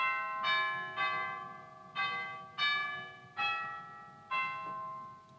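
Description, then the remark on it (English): Orchestral tubular chimes struck six times at an unhurried, uneven pace, each bright metallic tone ringing on and overlapping the next. The sound is clear and moderately loud, with no talking. “And even chimes.”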